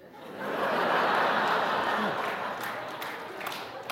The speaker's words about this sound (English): A little smattering of applause for that. Well done, you.